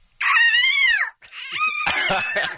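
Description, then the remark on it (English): A woman imitates a hawk with two loud, shrill screeches: the first a smooth arching squeal, the second longer, rougher and raspy, breaking up toward the end. “This is her hawk sound that we've had to hear all day long today in anticipation of your arrival, so I think it's only fair that you enjoy it as well.”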